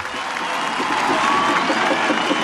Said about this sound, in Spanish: Así que por favor, darle el aplauso que se merece.